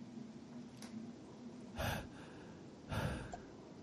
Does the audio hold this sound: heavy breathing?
yes